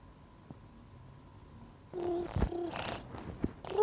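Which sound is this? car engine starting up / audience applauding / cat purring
cat purring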